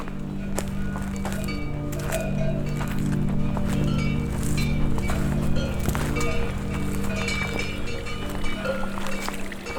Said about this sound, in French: Après la musique des insectes, les jolis mots des randonneurs, vous retrouvez le chant des pâturages. Chevaux de Mérens, 1500 mètres d'altitude.